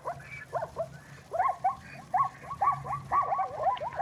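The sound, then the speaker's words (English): A zebra gives a rapid series of barking, chirping calls, repeated over and over in quick yelps, with a low steady hum underneath and no talking. “That's a zebra.”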